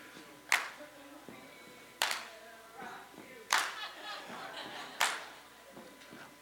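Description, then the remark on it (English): A steady, slow rhythm of sharp percussive hits, foot stomps and hand claps, lands four times about a second and a half apart, with faint murmuring and light chuckles from a small crowd between. “All I did was stomp my foot a couple times and clap.”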